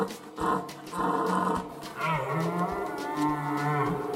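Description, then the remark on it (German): Reindeer calling: a few short, deep grunting bellows followed by a long, drawn-out moaning call, fairly loud and steady, with no talking. “Ja, so können Rentiere übrigens klingen.”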